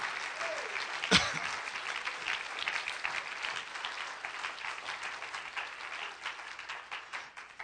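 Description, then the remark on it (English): An audience claps steadily in praise of God during a church service, dense overlapping hand claps forming a sustained wash of applause that gradually eases off. A sharp louder clap or thump stands out near the start. “Clap your hands, lift your voice, give God some praise.”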